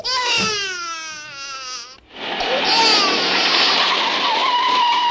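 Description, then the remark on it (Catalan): A car pulls away loudly as a man drives off, leaving home, starting with a drawn-out high tire squeal before a rushing engine roar takes over and holds steady, with no talking. “I aquest cotxe sap conduir aquesta nena ja?”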